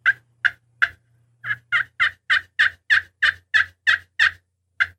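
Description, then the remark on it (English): A turkey hand call, with a hand held flat on the bottom of the call to close up the volume hose, gives about fourteen short, subdued yelps: three spaced notes, a brief pause, then a quicker steady run of yelps, alone. “Now, I'm going to take the call and put my hand flat on the bottom of the call to close the volume hose up.”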